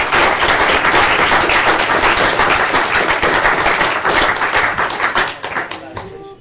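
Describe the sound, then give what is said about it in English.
A large audience at a medical society lecture in Glasgow applauds the speakers steadily and loudly. The dense crackle of many hands holds strong for several seconds before thinning out and fading at the end. “I think we should thank our speakers for a round of applause once more.”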